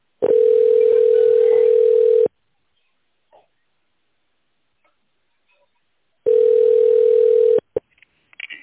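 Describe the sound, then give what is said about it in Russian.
Telephone ringback tone as a call to the company Intel Trade connects to an operator: a steady, mid-pitched beep sounds for about two seconds, then a long silence, then a second ring that cuts off early, followed by a few faint clicks. “Соединяюсь с оператором.”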